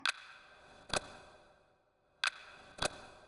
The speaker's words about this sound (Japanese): 時計の音が一つするたびに、あなたの身長は1センチずつ縮んでいく。